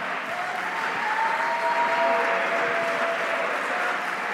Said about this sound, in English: Oh, somebody clap your hands right now. Come on, somebody clap their hands right now.